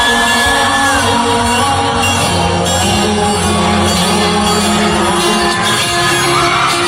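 Loud live concert sound, with a singer shouting repeatedly over dense band music and a roaring crowd, all blended together continuously without a break.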